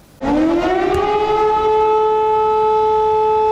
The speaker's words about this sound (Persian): صدای آژیر خطر در دونتسک در شرق اوکراین، منطقه‌ای که حالا تحولاتش به شدت زیر نظر است.